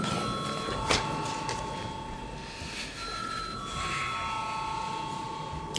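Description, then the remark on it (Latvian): A parliament bell rings continuously for several seconds before a vote on declaring a bill urgent, a steady, bright electric tone with overlapping high pitches, over a faint background murmur of the chamber. “Lūdzu, zvanu.”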